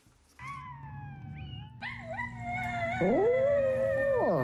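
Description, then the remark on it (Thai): A small dog howls in long, wavering tones, joined partway through by a second overlapping howl of its own recorded voice, played on a smartphone from a sound wave tattoo on the owner's right arm, fairly loud with no talking. “เจ้าพาซี่สุนัขตัวน้อยหอนคลอไปกับเสียงของตัวมันเองที่ดังอยู่บนสมาร์ทโฟน”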